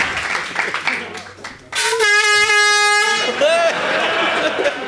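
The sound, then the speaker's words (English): A loud, sustained air horn blast, sounded for a quiz game winner, blares for over a second, its bright stacked tones cutting in sharply after some indistinct talking, then fading into voices. “Hit that air horn.”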